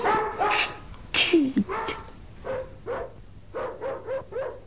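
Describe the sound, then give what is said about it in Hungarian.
A dog barks repeatedly, a string of short, sharp barks that settle into a fairly steady rhythm, with a few higher yelping notes early on. “Csak mi vagyunk a cimborámmal, meg a kutyám.”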